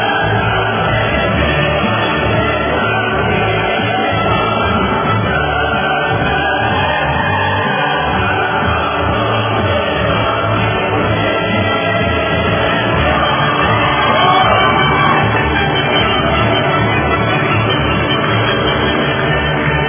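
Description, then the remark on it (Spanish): A large crowd applauds and cheers continuously at steady volume, with shouts and whoops rising from a dense wall of clapping. The sound is somewhat muffled, as if captured through a loudspeaker. “Bueno, a la Corte Interamericana por hacer justicia por esta mujer y a todos los que se están organizando, vamos, los aplausos pues, para mantenernos vivos y alegres.”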